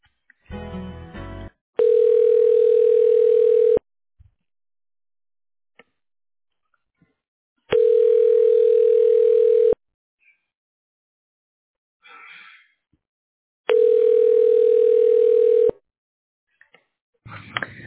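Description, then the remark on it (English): A telephone ringback tone sounds three times, each a steady two-second ring separated by about four seconds of silence, heard through a phone line with faint clicks between rings, as a call is transferred to the radiology director of Georgetown Community Hospital. “Sure. Let me transfer you.”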